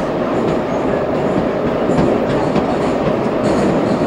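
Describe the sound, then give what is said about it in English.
A fast subway train rattles loudly and continuously through a tunnel, heard with the windows of the non-air-conditioned car open, its dense low rumble steady throughout, with faint rhythmic clacks and brief metallic hisses riding on top. No one speaks. “The windows are open to the subway, which adds a little air to the place.”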